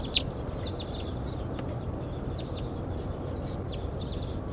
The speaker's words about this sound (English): That was bird 170. As a larger flock flew over.